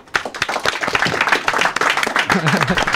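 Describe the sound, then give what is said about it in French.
An audience applauds the artists after a concert: dense, steady clapping starts abruptly and keeps a full, crackling roar for about three seconds, with a brief voice or cheer rising through it near the end. “Et voilà, les artistes, on peut les applaudir.”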